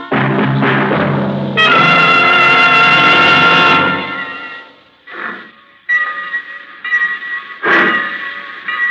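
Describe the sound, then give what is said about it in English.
A train pulls out of Easton at 1:20 in the afternoon: a loud, sustained whistle chord sounds first, then gives way to a few separate bursts of steam and engine noise as it gets moving. No one speaks. “The train pulled out of Easton at 1:20 in the afternoon.”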